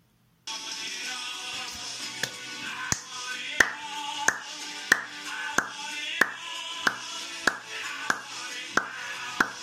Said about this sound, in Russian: Я начну хлопать в ладони, а вы присоединяйтесь и пытайтесь услышать, в какой момент нужно хлопнуть, чтобы попасть в ритм песни.